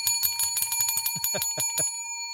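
bicycle bell ringing

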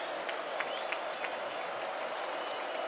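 football stadium crowd cheering

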